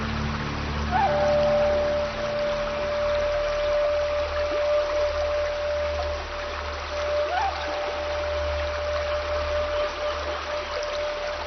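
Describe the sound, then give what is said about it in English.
A crystal-clear mountain stream winding between the peaks of Zhangjiajie, China, flows steadily and continuously, a soft broad rushing of water with a low rumble underneath and a faint sustained tone running through, with no voices present. “Winding between Zhangjiajie's peaks, crystal clear mountain streams are home to what is perhaps China's strangest creature.”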